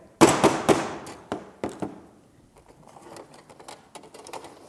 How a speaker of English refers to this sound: Hello! My name's Henrietta the Hammer. I'm very good at getting things done, but some people think I'm a little noisy.